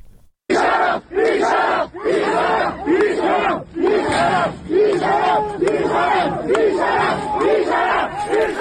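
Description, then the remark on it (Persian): A loud crowd of protesting students shouts together in steady, rhythmic bursts, roughly one cry per second. It is a dense mass of raised voices with no pause or quiet moment throughout. It is recorded during a clash with plain-clothes security forces at a gathering in the public courtyard of Ardabil University of Medical Sciences, Iran. “صدای یکی از این درگیری‌ها رو بشنویم.”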